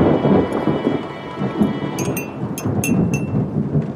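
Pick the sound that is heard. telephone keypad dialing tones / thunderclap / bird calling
thunderclap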